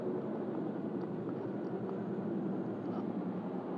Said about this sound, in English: And here you live so close and you depend on one another, and here comes another chopper to add to the noise.